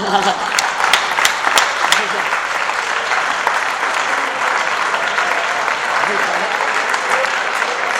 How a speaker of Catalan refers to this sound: Felicitats, sou uns cracs. Aplaudiu.